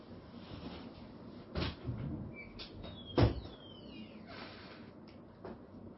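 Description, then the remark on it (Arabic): A door opens: two sharp knocks of the handle and latch, with a brief high squeak of hinges between them, over a steady low background hiss. “أفتح الباب، ربما يأتيكم النت أقوى من الأول”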